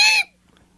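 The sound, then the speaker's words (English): A person imitates the begging call of a juvenile great horned owl, the call fledged young owls make asking to be fed: one short, harsh, raspy screech, loud, cutting off quickly into near silence. “Those are juvenile great horned owls, and that's a begging call.”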